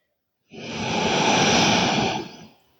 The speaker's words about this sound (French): Et vous installez cette respiration particulière. Inspire, je prends de l'air, de l'énergie.